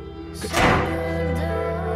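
A front door slams shut with one heavy, booming thud, followed by a short rumble as it settles. A steady low droning tone continues underneath throughout.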